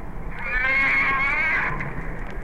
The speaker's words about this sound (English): That's the voice of one of the answers to the food shortage, the humpback whale.